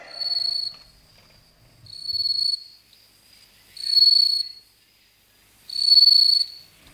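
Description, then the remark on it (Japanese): Bell crickets and pine crickets chirp in four clear, evenly spaced bursts of high, ringing trills, each lasting under a second, with quiet gaps between and no voices. “スズムシ系、マツムシ系の皆さんが泣いてますね”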